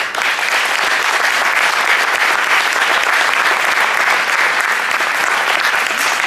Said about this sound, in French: Donc je vais leur demander de venir sur scène en commençant tout d'abord par ceux qui me suivent depuis toujours. Mes préférés, je dois le dire. Ce sont évidemment les membres du comité directeur que je vais vous demander d'applaudir très très fort.